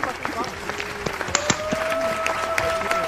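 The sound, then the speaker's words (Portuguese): A small group claps hands in brisk, irregular applause, sharp overlapping claps continuing throughout, with a thin steady tone humming underneath for the second half. “Então vamos bater palmas, né?”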